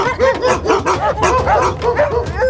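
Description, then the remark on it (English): A pack of pit bulls bark and yap over one another in a frantic, overlapping chorus, loud and continuous, with rapid harsh barks and some higher yips mixed in. “A flock of seagulls transformed into a pack of raging pit bulls.”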